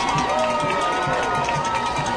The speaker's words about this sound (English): There's the signal, and you can hear the ovation from the crowd here.